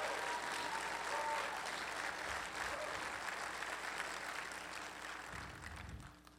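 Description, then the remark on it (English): An audience applauds steadily, a dense wash of many hands clapping at an even, loud level that holds throughout and eases slightly toward the end, giving the Lord a clap offering during a morning service. “If you were here last night and absolutely got your socks blessed off, would you let it be known by giving the Lord a clap offering?”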